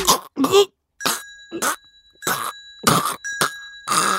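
Someone coughs hard and repeatedly, around eight harsh, gagging bursts in quick succession, choking on a pani puri stuck in the throat, while a steady high ringing tone sounds through the middle of the fit.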